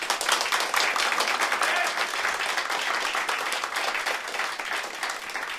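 Sustained applause from a large live audience, dense overlapping clapping that stays loud and steady for several seconds without any talking on top.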